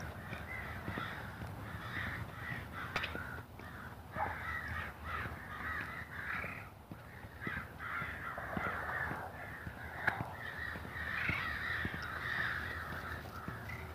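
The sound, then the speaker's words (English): Crows caw repeatedly, harsh calls overlapping in an irregular chorus over steady outdoor background noise, with no voices present. “Can you hear those crows?”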